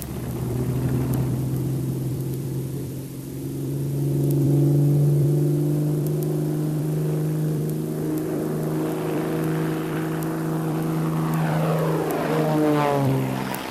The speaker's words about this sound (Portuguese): No dia 1 de junho de 1939, o piloto de provas da Focke-Wulf, Hans Sanders, decolou com o primeiro 190 do aeroporto de Bremen para testar os novos conceitos.